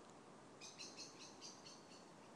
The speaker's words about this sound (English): Oh, listen to the bird. That is a blackbird. And that's another blackbird.